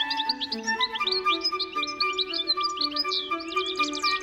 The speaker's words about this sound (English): And it has the looks to match its sparkling song. Its striking red and white face is set off by yellow and black wings. No wonder Vivaldi found the goldfinch irresistible.